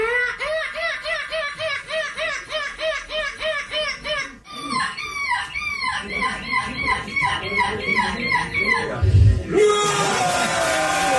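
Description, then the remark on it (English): A 10-year-old boy imitates a seagull at the European Gull Screeching Championship, where he won gold for the second consecutive year: a long run of rapid, rhythmic screeching squawks, loud, ending in a burst of noisy crowd sound like cheering or applause. “at what point growing up did you know that you could imitate a seagull as well as you do?”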